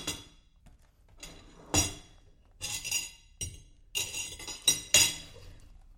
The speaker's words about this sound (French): On n'entend plus que les bruits de mâchoires et des fourchettes contre les assiettes.